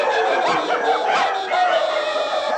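Many dogs out in the city streets bark and yip at once, a chaotic chorus heard throughout the city, dense and overlapping, loud and continuous with no pauses.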